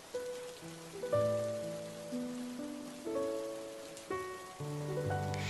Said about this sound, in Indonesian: Hujan kali ini dipenuhi dengan segala memori juga kenangan. Hujan kali ini aku menangisi orang-orang yang telah pergi dari hidupku.